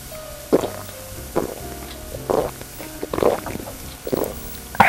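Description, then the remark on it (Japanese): Right after a group toast, someone gulps down a drink quickly from a large glass, with about five wet swallowing sounds at a steady pace of roughly one per second. The gulps are fairly loud, and no one speaks. “ごっつ勢いで飲んだね”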